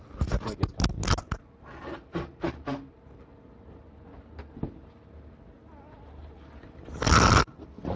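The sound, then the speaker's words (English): A microphone falls to the ground with a flurry of loud clattering bumps and scrapes, a second short burst of knocks, then quiet handling noise and a final harsh rustling thud. No one speaks. “So I didn't want to have it record me blowing my nose, but it records the mic falling on the ground.”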